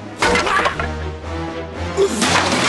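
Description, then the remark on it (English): A loud crash as the Rubber King, hanging on a rope, slams into his skull-adorned throne, followed by clattering debris and a second smashing burst near the end, with a low rumble underneath. “He hangs on grimly, crashing into his skull-adorned throne.”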